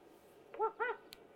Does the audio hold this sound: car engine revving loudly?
no